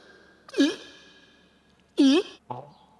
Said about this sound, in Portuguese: Peidaram. Esse aí libera testosterona, esse som aí. Libera testosterona? Ele te libera. Pelo som da cuíca.